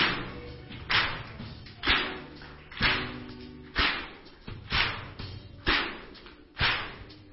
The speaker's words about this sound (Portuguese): Só as palmas.